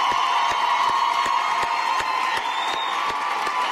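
Loud standing ovation applause: a big crowd clapping together in a steady, even beat, about three claps per second, over a continuous roar of cheering and whoops.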